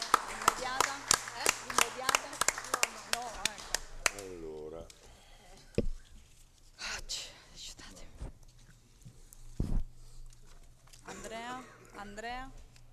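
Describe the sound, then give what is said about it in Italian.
Scattered hand claps ring out over the first few seconds in a council chamber after a motion is approved with 29 votes in favour, a brief, thin round of applause mixed with murmuring voices, followed by quieter talk and a few isolated knocks. “Bene, la mozione è approvata ovviamente con 29 voti favorevoli e 4 assenti. Un applauso.”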